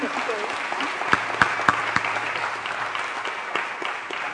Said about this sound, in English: Your applause gives me a moment to catch my breath, so that's good.